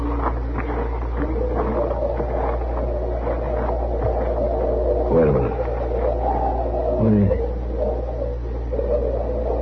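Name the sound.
wolf howling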